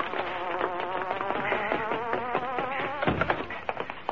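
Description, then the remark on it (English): The Hornet's car engine hums steadily with a buzzing, insect-like drone, its pitch wavering slightly up and down as it runs continuously for several seconds with no voices. “That's the Hornet's car, I'll tell you.”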